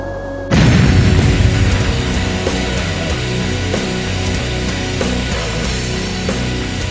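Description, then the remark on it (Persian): A sudden loud blast from an M20 recoilless rocket launcher erupts after a brief near-silent moment, then a heavy, sustained rumble rolls on for several seconds with faint periodic knocks, like a rocket launch and explosion echoing. “آندواری با یک شلیک از پا در آمد و لوکی صاحب گنج افسانه‌ای نیداولیر شد.”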